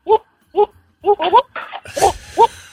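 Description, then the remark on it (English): Goats yell in a quick series of loud bleating cries, about five or six harsh calls in a row, the later ones overlapping and rougher amid a burst of noise. “Well, to celebrate yelling goats.”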